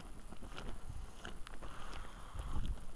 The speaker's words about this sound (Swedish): Det kommer ganska så kalla vindar måste jag säga.